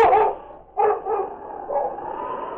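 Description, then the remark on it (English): A dog named King raises his head to the sky and howls in a few drawn-out, wavering cries, the last one held steady and long, to call for help for a badly hurt man. It is clear, with no voices around it. “King raised his head to the sky and howled.”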